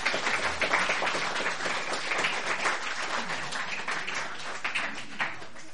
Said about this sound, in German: Ich bin mega froh, dass er da ist. Ich darf ihn gerade mal mit einem warmen Applaus empfangen.